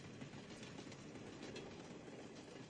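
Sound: train pulling out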